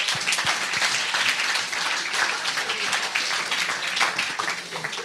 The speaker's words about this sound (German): Lass ihm mal einen Applaus geben.